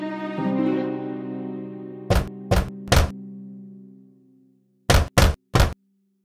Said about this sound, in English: When he saw Mother Goat leaving, he waited a while, and then he came in front of the cottage and knocked on the door.